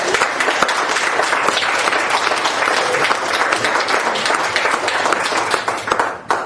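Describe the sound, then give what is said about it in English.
An audience breaks into sustained applause, dense overlapping claps forming a steady, loud wash of sound for several seconds before easing slightly at the end. “Somebody start wondering if you should clap or not. Yes, you should.”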